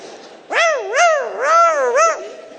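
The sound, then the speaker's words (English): A teacup chihuahua named Princess yelps and whimpers in several high, wavering cries run together over about two seconds as other dogs pile on top of her; fairly loud, with no talking underneath. “And princess starts yelping for her life.”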